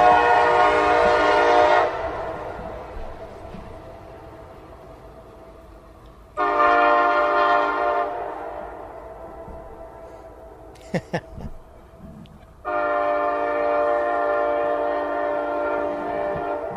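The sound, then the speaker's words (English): A bigger train with two cars and two engines rumbles past, its deep horn sounding three long, loud blasts over a steady droning hum, with a few sharp clanks between the second and third blasts. “This is a bigger one. It's two cars. Two engines.”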